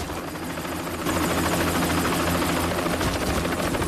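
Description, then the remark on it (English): A helicopter roars with a steady, throbbing rotor drone that suddenly grows louder and fuller about a second in, then holds strong. It is taking off after dropping off soldiers and flies away, rising above a forest. No voices are heard. “The men hurtle down a steep slope, and the chopper takes off again.”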